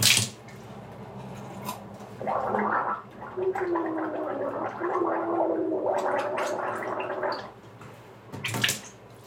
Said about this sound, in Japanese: うがいするとき声出した方がいいってなんかで聞いたので、あーとか言ってます。